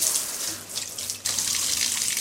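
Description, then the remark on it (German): A bathtub tap runs steadily into the tub, with water slightly cooler than hand-warm for showering houseplants: a continuous bright hissing rush of water that briefly softens and then surges back fuller, with no talking. “Und mit dem Wasser schauen wir, dass es ein bisschen weniger als handwarm ist.”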